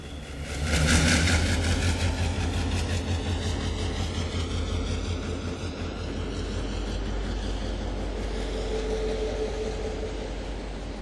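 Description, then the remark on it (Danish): A heavy MY diesel locomotive engine drones steadily, a deep low rumble with rattling mechanical texture that swells briefly near the start, then holds a constant throb with no voices. The MY ran south to Rødby to mark the 40th anniversary of the Fugleflugtslinjen. “Og så kørte MY'eren sydpå til Rødby for at markere fugleflugtslinjens 40-års jubilæum.”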